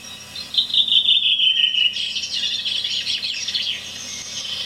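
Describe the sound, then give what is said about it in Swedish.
A bird sings in a field recording made on Öland, a clear-voiced, high, accelerating series of whistled notes followed by a busier warbling phrase, over a steady outdoor background hiss. “Sen har jag varit nere på Öland och spelat in. Där kom den. Mer klar stämma.”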